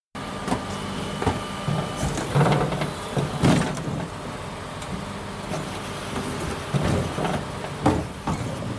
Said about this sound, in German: Ja, es hat sich ja schon angedeutet, ja, okay. Hier ja, war ja klar. Kommt die Müllabfuhr.